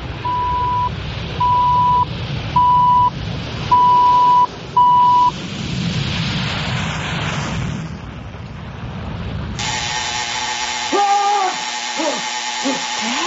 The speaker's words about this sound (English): And now for the CBC official time signal. At the beginning of the long dash, following 10 seconds of silence, it will be 1 o'clock Eastern Standard Time.